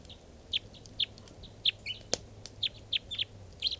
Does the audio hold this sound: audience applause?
no